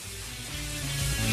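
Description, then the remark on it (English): A shower runs with a steady hiss of spraying hot water that swells slightly louder over a moment, while faint low tones hum underneath. “Get the water all hot. Get the water hot, get us hot.”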